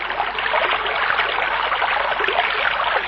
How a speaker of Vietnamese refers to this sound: Kìa, một con suối, ta hãy đến uống cho đã đi em.